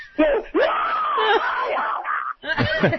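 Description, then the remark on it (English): A loud, exaggerated scream, actor Wayne Knight re-creating his take for Spielberg after being shot with a rifle filled with dyed black KY jelly, stretches for about two seconds with a wavering, moaning pitch, then breaks off and is followed by a shorter, choppier cry. “And so I did a take, and then the second take, I did the scream, you know, after he shot me.”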